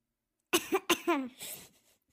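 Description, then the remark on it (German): A short run of squeaky, high-pitched coughs passed through a funny voice-changing effect on a mobile studio device, like a voice sped up into a cartoon chipmunk, three or four quick bursts trailing off into a breathy rasp, with no talking. “Dann könntest du husten wie so ein Disney-Streifenhörnchen.”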